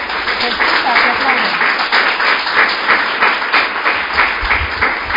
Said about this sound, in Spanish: Se les ha escuchado que aplaudían, pero no se han visto las caras de felicidad que tenían.